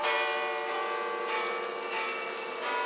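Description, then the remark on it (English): Church bells in a bell tower, broken loose from webbing, ring loudly, their overlapping tones merging into a continuous, shimmering clang that swells and sustains throughout, with no voices present. “The bells, they broke loose from the webbing.”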